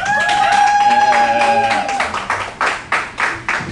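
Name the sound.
crowd clapping and cheering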